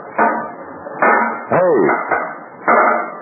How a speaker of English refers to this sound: There were several trucks inside, but just one man. A beefy-looking character pounding out a dent in one of the truck fenders.